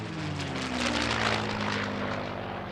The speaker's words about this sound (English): The low thud-thud of my propeller bore steadily into the vast, changeless sky.